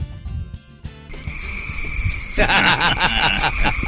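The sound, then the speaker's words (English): Crickets chirping steadily in a high, shimmering drone, growing fuller and louder halfway through as more insects join, with a faint low rumble of night ambience underneath and no voices. “That's what happens when Warren tells a joke. Jiminy. Cricket. Cricket.”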